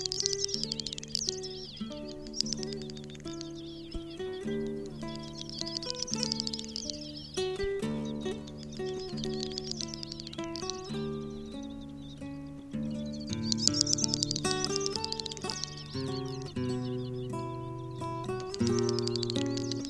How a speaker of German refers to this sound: Das war die Doppelschnepfe.